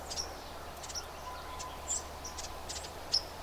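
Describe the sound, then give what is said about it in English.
Brief, high-pitched ruby-crowned kinglet scold notes, a little did-a-dit call, come in quick scattered bursts, faint, over a steady background hum of insects in woods. “He's also making that little did-a-dit, did-a-dit scold sound.”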